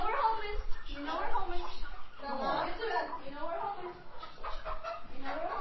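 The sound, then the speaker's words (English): Chickens cluck and squawk in a busy, overlapping chorus as a father and his 11-year-old daughter herd them into a pen in a newly repaired barn on a 9-acre property in David City, Nebraska; the calls rise and fall nonstop, with some scuffling movement underneath. “herd chickens into a pen in their newly repaired barn.”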